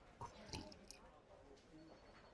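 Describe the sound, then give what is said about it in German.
A few soft, wet lip smacks from someone drinking coffee, about three quick clicks in the first second, then quiet mouth noise fading out; no one speaks. “man muss auch mal ein bisschen so schmatzen, ne? Also quasi, wenn man Kafka trinkt.”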